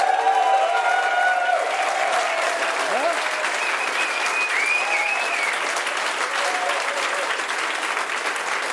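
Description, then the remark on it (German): Loud, sustained applause from an audience of at least 200 people in a hall, with scattered whoops and high-pitched whistles rising above the steady clapping throughout, holding its intensity for the full length. “Deswegen bitte, lass ein wenig Sau raus und zeige, dass hier mindestens 200 Leute im Saal hocken.”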